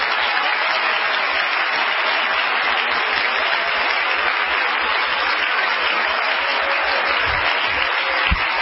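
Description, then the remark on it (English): An audience gives the Lord a hand clap of praise, a dense, steady wash of many hands clapping at once that stays loud and even for the whole stretch, with no voices standing out. “Oh, give the Lord a hand clap of praise.”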